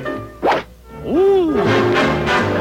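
A single sharp thwack of a golf club striking a ball in a golf match, the shot hooking to the left, followed by a rising and falling vocal exclamation and a steady murmur of voices.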